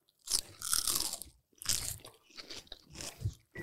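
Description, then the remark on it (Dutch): Crunchy chewing of juicy oyster leaf and ice plant taken into the mouth all at once, several bursts of wet crackling bites in an irregular rhythm, fairly loud, with no talking. “En het idee is dat je het onderste blaadje, het oesterblad, dus je pakt alles tegelijk in je mond.”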